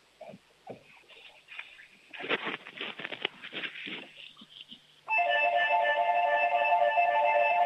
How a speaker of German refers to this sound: Das ist ja eine tolle Türglocke.